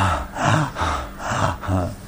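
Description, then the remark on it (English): A person imitates the gopis' heavy, labored breathing, with about four loud, rhythmic gasping breaths in quick succession, some with a rough voiced edge, with no talking. “Oh, sighing. Heavy breathing. Turning pale from their heavy breathing.”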